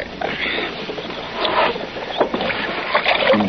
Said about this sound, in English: If you keep on scrubbing, we'll almost be able to see out of that window again.